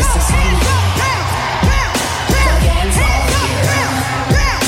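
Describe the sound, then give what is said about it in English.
A large festival crowd at Glastonbury screams and cheers loudly and continuously, with many overlapping whoops and yells rising and falling, punctuated by heavy thumping beats underneath. “In the A13, Glastonbury, scream!”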